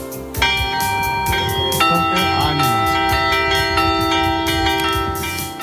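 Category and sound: signal or alarm, bells ringing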